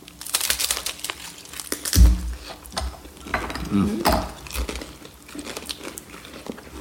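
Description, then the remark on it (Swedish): A crisp crunching bite into crunchy food, followed by a steady run of crackly chewing crunches with a few heavier bites, with no talking. “Vi tar ett lite knaprigt bite.”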